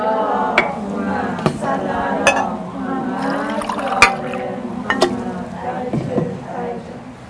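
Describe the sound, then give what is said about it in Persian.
Water is poured steadily into a glass to drink during a lesson, its gurgling pitch rising as it fills, with a few sharp clinks of glass along the way, clear. “خیلی خب یکم آب بنوشیم”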